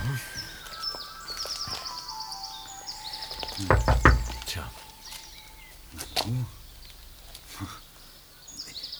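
Several firm knocks on a door in a quick cluster, fairly loud, with faint bird chirps and a soft background ambience around them.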